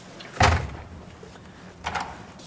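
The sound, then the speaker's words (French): A heavy door, leading to a spiral staircase down to the basement and the former prisoner holding cells of the Conciergerie, is pulled open with a deep, loud clunk, followed about a second and a half later by a softer scraping knock, with no talking. “Peut-être que je vous montre cette porte.”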